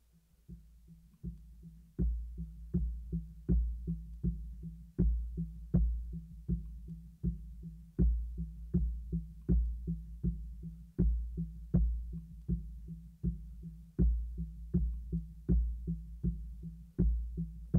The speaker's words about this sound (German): Du hörst ein Rauschen, entfernte Stimmen und du folgst dem Herzschlag deiner Mutter über dir.